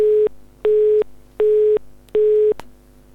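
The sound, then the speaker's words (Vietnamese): A telephone busy tone after a dropped call: four steady, evenly spaced beeps in a regular on-off rhythm, clear and fairly loud over a faint line hiss, with no voices. “Dạ thưa quý vị, cuộc điện thoại bị cắt ngang.”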